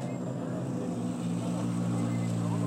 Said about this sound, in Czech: Ale už tam přijíždí další auto.